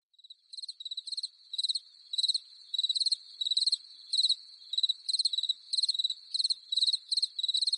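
crickets chirping

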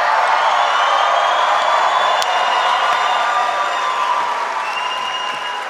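rally crowd cheering

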